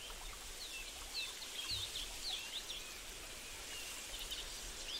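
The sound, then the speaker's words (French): Birds chirp and twitter in quick scattered bursts throughout in the branches of a century-old oak, over a steady hiss of outdoor ambience like running water or light rain. “Cet arbre est le repère de nombreux oiseaux qui piaillent joyeusement dans ses branches, se reposant sur ses dernières, y construisant des nids, çà et là.”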